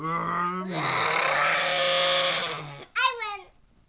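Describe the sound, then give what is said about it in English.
A child's voice imitates a racing car engine during a pretend race, a steady buzzing vroom held for about two seconds, then a short sliding squeal that rises and falls before cutting off. “If winning means making the best car noise.”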